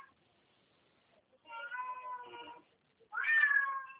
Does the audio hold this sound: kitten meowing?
yes